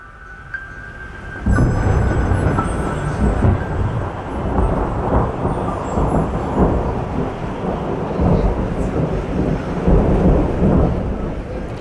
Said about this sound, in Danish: Det er søndag, og vejret er blevet rigtig dårligt. I det fjerne lyder eksplosioner fra skydebanen, der blander sig med tordnen.